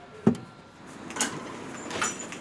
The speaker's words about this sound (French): Ma deuxième étape, c'est la boulangerie. Bonjour. Quand on ouvre la porte, ça fait du bruit.